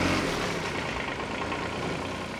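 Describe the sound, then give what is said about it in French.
A tractor engine runs steadily as it is driven straight along crop rows while blades hoe between them, a continuous broad rumble with no change in pitch or loudness, heard on its own with no voices. “pour guider un peu plus finement les lames pour biner, pendant que moi, je conduis le tracteur en essayant d'aller tout droit et sans écraser les rangs.”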